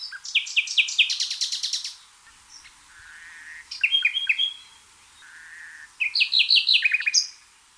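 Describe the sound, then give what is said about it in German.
A nightingale sings three clear phrases of rapid repeated notes, trills and drawn-out whistles, separated by brief pauses, with no voices or other sounds. “Das hat man für die Nachtigall herausgefunden.”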